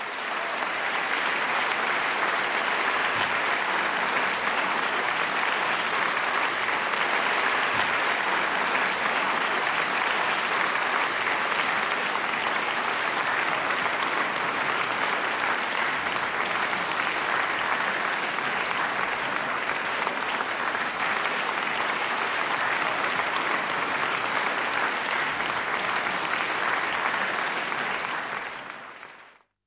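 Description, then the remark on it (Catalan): Sustained applause on Ràdio Estel at 8 in the evening, dedicated to parents caring for children who can no longer go to school, a dense steady wash of clapping holding at an even loudness for about thirty seconds before cutting off sharply at the end. “Un aplaudiment.”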